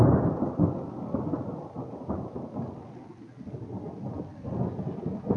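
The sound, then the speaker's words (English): Steady rainfall with deep, rolling thunder rumbling throughout, a continuous low roar that swells and fades, with no voices. “See, they're really letting you know they're there. You said no rain.”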